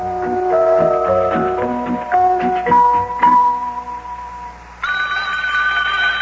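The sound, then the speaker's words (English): A telephone in a home in Cincinnati rings loudly near the end, a steady buzzing trill that follows a few seconds of short melodic tones; no one speaks. “just about the time we had given up hope of learning anything new, the telephone rang.”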